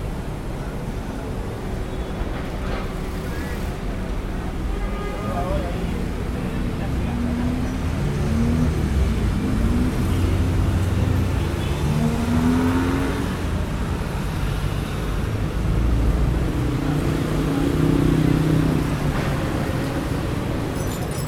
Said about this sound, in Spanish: Fíjense que dieron el tránsito en Avenida Corrientes, ya tengo que forzar un poco más la voz y los valores subieron a superar los 80 fácilmente.